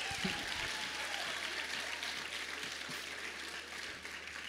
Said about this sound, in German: Für meine Tochter habt ihr nicht so laut geklatscht.